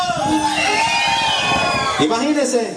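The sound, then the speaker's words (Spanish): A crowd shouts and cheers loudly and continuously, many voices overlapping in a sustained roar with rising yells and whoops, energetic throughout. “¡Que se escuche el grito!”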